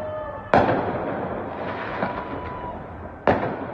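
Fireworks bursting around Cleveland on a Sunday night in January: two sharp booms about three seconds apart, with a softer pop between them, over a steady rumbling background of crackle and noise. No one speaks.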